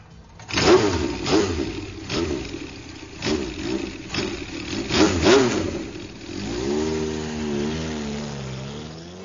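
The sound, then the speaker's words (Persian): A trail motorcycle engine revs in several sharp bursts, throttle blipping up and down, then settles into a wavering, steady drone as it rides away to the front of a military division headquarters. Loud, with no talking. “محسن سوار موتور تریلش شد، رفت جلوی قرارگاه لشکر.”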